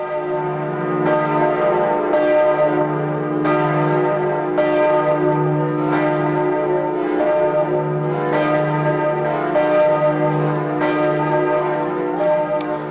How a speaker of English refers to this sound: The bells of Notre Dame Cathedral in Paris, which rang out together on Friday for the first time since a fire devastated that cathedral more than 5 years ago.